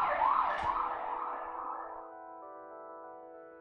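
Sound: police siren passing outside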